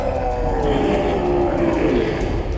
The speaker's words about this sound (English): Snarls and howls fill the room as the three dwarves shapeshift into ravenous beasts, a bear, a tiger, and a wolf.